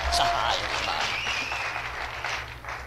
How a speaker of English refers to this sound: Please applaud our fine graduates.